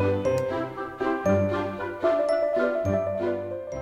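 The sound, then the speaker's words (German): An email inbox notification chime plays alone, a bright, melodic short run of ringing tones over a soft bass, repeating in quick bursts at moderate volume. “bei dir klingelt die Inbox.”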